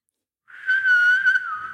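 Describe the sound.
Someone whistles a TV theme tune: a clear, fairly high held note that swells louder and wavers slightly in pitch, with no talking, after a brief silence.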